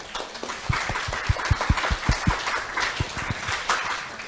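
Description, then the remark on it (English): A church audience at River Marlow claps after a worship song, in a fairly steady rhythm, individual claps standing out over a bed of scattered applause that continues for a few seconds, with no talking. “It really, yeah, I think it deserves a clap.”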